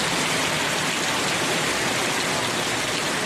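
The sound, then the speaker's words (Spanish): Heavy, torrential rain from a storm in the south of the province of Valencia pours down in a dense, unbroken roar of hissing noise, steady and loud throughout with no pauses or voices. “Y tenemos además nuevo episodio de lluvias torrenciales.”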